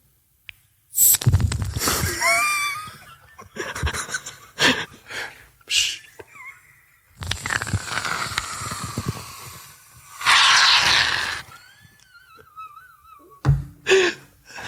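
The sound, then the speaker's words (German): A voice imitates a waterfall with a series of loud, breathy hissing and rushing bursts, broken by short gasps and a few thin, warbling whistle tones. There is no talking. “Das war der Wasserfall.”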